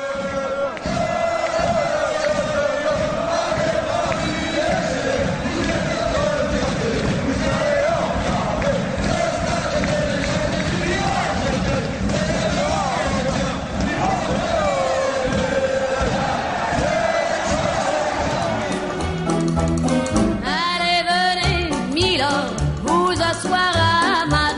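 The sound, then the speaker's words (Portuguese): A large crowd of Paris Saint-Germain supporters sings in unison a chant set to a classic French song, with lyrics glorifying Paris Saint-Germain, a loud, sustained melodic roar with rhythmic pulses, ending in a burst of louder shouting and cheering. “Um clássico da música francesa que a torcida do Paris Saint-Germain retratou.”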